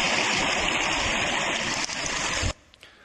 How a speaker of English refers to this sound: Trickle, trickle, gurgle, gurgle.